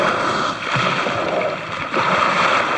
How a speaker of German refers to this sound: Das Geräusch, wenn ein Wal durch sein Nasenloch oben auf seinem Scheitel die Luft ausstößt.